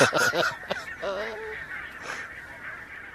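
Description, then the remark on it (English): Barnacle geese honking in a busy overlapping chorus at a goose-watching wintering site, several sharp yapping calls over a constant murmur of a large flock. “provide a winter home for these barnacle geese”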